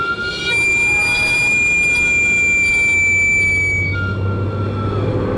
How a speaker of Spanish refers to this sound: Y aunque con el tiempo han cambiado muchas cosas, este sonido sigue intacto, evocando nostalgia y tradición. ¿Quién no ha salido corriendo con una moneda en la mano al escuchar el chiflido del camotero?